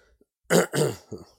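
A close, loud fit of three rough, throaty coughs in quick succession, the last one shorter and weaker, with no talking around them.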